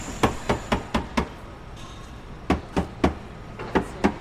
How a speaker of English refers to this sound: Underneath the car here, sprawled out on the ground, tapping underneath, tapping the spare tire.